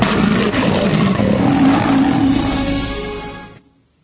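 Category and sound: animal, lion roaring loudly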